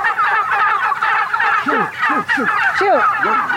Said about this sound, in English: Shoot. The turkeys broke down the electric fence. You were almost assaulted by 1,000 turkeys. The turkeys have escaped. They broke through the electric fence.